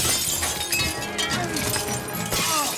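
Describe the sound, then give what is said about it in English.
A glass case is smashed, a loud shattering crash followed by a continuous scatter of tinkling, crunching shards that keeps going for a few seconds with no voices. “A glass case reads, in case of penguin attack, break glass.”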